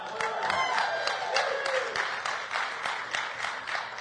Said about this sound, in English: And yes, she does deserve that applause.